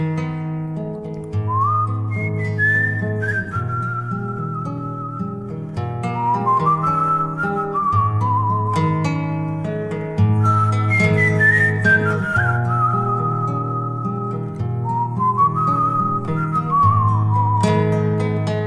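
A slow, weary human whistle carries a sliding melody in repeated drooping phrases, heard clearly over steady instrumental accompaniment with a low sustained bass.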